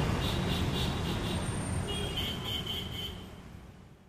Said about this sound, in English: But I tell you what, because there's so much traffic out here and it's so noisy, why don't we go inside so we can hear each other speak?